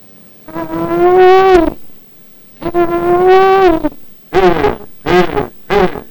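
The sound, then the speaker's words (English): A person calls to pigs with two long, drawn-out wavering vocal calls, followed by three quick, sharp shouts. The voice is loud, nasal and sustained, with no other sounds. “Well, how do you call pigs?”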